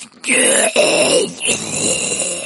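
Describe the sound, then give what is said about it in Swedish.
A hoarse, rasping groan from an eyeless, hooded figure reaching out a bony hand, loud, drawn out over a couple of seconds with a brief catch partway through before it trails on in a rough, strained breathy rasp. “Gestalten sträcker ut en benig hand mot Viggo och det kommer ett hest läte ur hans mun.”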